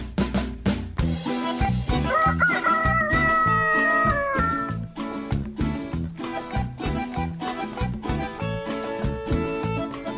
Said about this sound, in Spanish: Ya cantó el gallo, como corresponde, a las 10 de la mañana, porque el gallo acá, en la radio escuela, canta a las 10, por supuesto. Buen día, gallito precioso.